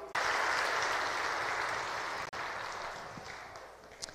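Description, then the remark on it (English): An audience claps together on Palm Sunday in a dense, steady wash of applause, holding loud and even for about four seconds with a brief break in the middle, and no voices come through. “Why are we clapping and waving these branches and doing halahel?”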